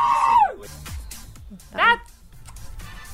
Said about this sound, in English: Hold on. I found the screaming goat.